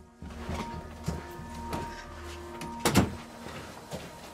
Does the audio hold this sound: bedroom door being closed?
yes